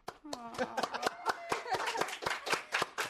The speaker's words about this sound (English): Everybody out there in the world is probably clapping right now.